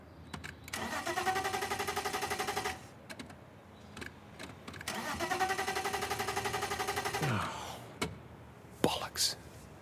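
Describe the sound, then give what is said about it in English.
A car engine cranks in two long, rhythmic attempts to start, each grinding on for a couple of seconds. A brief rising whine and a few short knocks follow, moderately loud. “We so need a decent car.”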